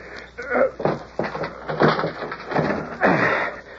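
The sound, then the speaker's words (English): A wooden door with an old lock is shoved and rattled hard several times in quick succession, heavy thumps and creaks against the stuck lock, with some faint straining noises between the blows. “Just give it a shove. That old lock won't hold nothing.”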